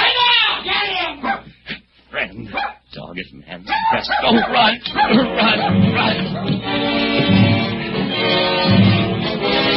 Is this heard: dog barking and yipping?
yes